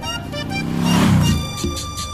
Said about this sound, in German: Mit dem Auto Richtung Uruapan.